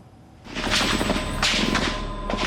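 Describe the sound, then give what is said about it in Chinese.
A few muffled gunshots burst out, roughly three spaced cracks over a loud, hissing wash of noise, on a rough, low-fidelity archival recording of gunfire in Beijing on the night of the June 4 Tiananmen events. “那么接下来也继续透过珍贵的历史画面，带大家一起回到28年前那个惊心动魄的夜晚，一起来听一听子弹声是如何划破夜空的宁静。”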